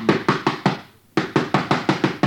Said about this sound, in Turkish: Yoksa kapıyı vurayım bakayım.